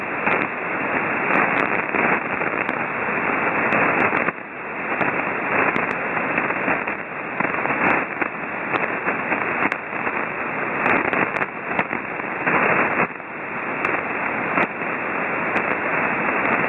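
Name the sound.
radio static crackle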